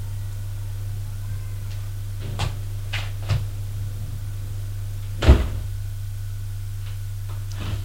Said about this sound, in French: La porte de son bureau s'est ouverte.